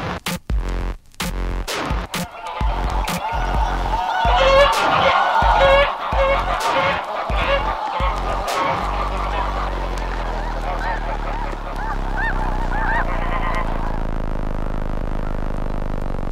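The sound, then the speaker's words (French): A flock of wild geese in their natural habitat honks loudly and continuously, many overlapping calls forming a dense, clamorous chorus with a low steady rumble beneath, like wind or wingbeats outdoors. “Pour se mettre en situation, écoutons des oies dans leur habitat naturel.”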